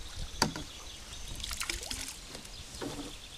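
A wooden punt is poled slowly through the water of the canals of the Marais Poitevin, with soft splashes, drips and a sharp knock near the start, fairly quiet with no voices.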